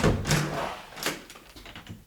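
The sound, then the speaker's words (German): A door is opened with a short burst of rattling and scraping, followed by a couple of softer knocks and shuffling sounds. “Draußen bölken die Schafe, wenn ich die Tür aufmache.”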